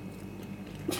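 Noisy chewing with wet lip smacking by a man sitting and eating, over a low background hum, ending in a sharper, louder smack.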